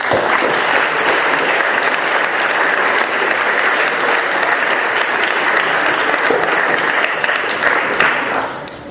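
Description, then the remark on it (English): A debate audience applauds speaker Dr. Issa Hussain steadily, a dense, loud wash of many hands clapping that holds evenly for several seconds before starting to taper off at the end. “Blair is pleased, a huge round of applause for Dr. Issa Hussain.”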